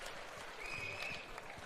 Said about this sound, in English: The crowd is sitting, roaring with laughter. Some are also clapping.